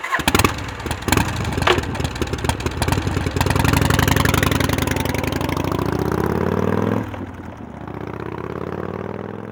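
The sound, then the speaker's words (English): A motorcycle engine cranks with a few sharp bursts, catches and revs up loudly with rising pitch, then drops back to a steady, throbbing idle. No voices are heard. “Her motorcycle is very beautiful.”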